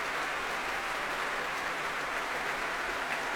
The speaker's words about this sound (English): Well, Tadaki Otsaka and Jonathan Lamalu coming back onto the stage now to take another bow. The applause doesn't really sound like it's abating in any way, does it?